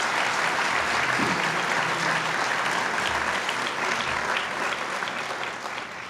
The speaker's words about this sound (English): Let's give a round of applause to City Council.